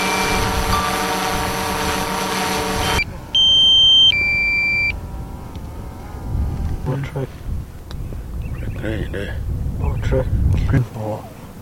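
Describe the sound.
A drone, used by community rangers to monitor the coast of Yalata in South Australia, buzzes loudly and steadily in flight for a few seconds, then cuts off; two electronic beeps follow, and people then talk over faint background noise.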